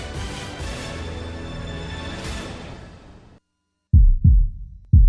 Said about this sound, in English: Ever listen to your own heart beating? It's amazing.